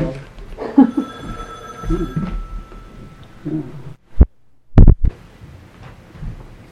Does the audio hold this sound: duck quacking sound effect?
no